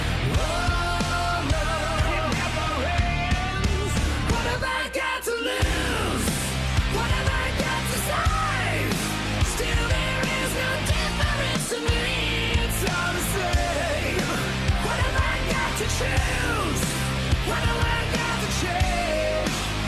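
A loud, dense rock song plays throughout, with a distorted guitar riff, bending notes and steady drums, pausing abruptly for a moment around five seconds and again briefly near twelve seconds.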